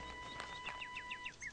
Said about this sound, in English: Look, the birds are coming back!